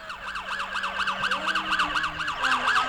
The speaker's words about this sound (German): Hörst du das? Ist das die Polizei? Schau mal da, das ist das Polizeiauto.